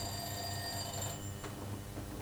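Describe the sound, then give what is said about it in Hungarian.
A telephone rings with a steady, high electronic tone for about a second, then cuts off, leaving a low background hum. No one speaks. “Csöng a telefon.”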